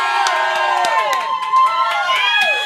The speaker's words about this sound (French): Et je voudrais qu'on fasse un maximum de bruit pour les brasseurs, s'il vous plaît. Allez!